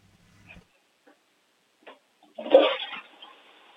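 A few faint clicks and knocks, then a toilet flush surges in with a loud, broad rush of water that gradually tapers off into a softer trickle.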